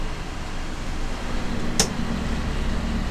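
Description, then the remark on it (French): Boat engines drone steadily in a broad, rumbling roar with a low hum as they power back up, showing their reserve power; a single sharp click cuts through partway. No one speaks. “Là, on entend bien les moteurs là qui redonnent.”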